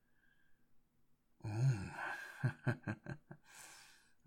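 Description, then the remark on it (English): After a second of near silence, a woman lets out a breathy, voiced gasp that trails into a sigh, followed by a few short, shaky pulses of breath and a soft exhale. “What a pretty little gasp.”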